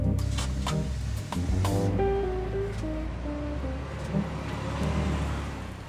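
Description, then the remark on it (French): A bus's engine rumbles steadily as it drives through city traffic in a snowy city, its pitch shifting as it moves, with a constant wash of road and traffic noise around it. No one speaks. “Quand elles sortent du bus, elles frissonnent.”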